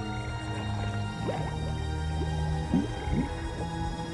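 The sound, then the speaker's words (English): A car slowly sinks into swampy mud, with a low murky rumble, soft wet squelches and a few gurgling bubbles rising near the end as the rest of it is swallowed up, fairly quiet. “The sinking proceeds at a snail's pace.”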